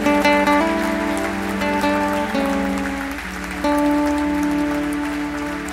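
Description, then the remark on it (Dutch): A church audience applauding as an offering of applause to Jesus during a worship service: dense, steady clapping that fills the whole clip, over sustained keyboard chords, with a brief dip in loudness partway through before it swells again. “En met elkaar gaan we Jezus even een klap offer geven.”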